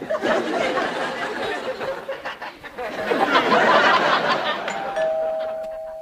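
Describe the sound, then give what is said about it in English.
A doorbell chimes once near the end, a clear sustained tone ringing out after several seconds of audience laughter and chatter. “that was the door. Sorry, I got my bells mixed up.”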